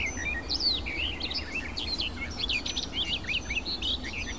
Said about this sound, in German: Und auch sie streut Imitationen mit rein. Es klingt so ein bisschen die Amsel raus.